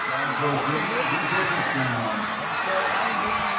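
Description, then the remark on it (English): The Wes Craven crowd cheers across the way at a rainy football game in Havelock after a Wes Craven touchdown, a steady roar of many voices that holds at an even level throughout, with a hiss like rain underneath. “And you can hear the Wes Craven crowd across the way, exuberant, despite the rain.”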